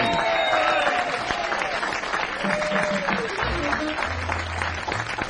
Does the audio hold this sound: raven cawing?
no